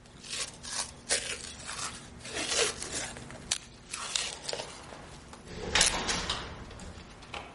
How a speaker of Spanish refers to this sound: Se coloca esparadrapo entre los dedos.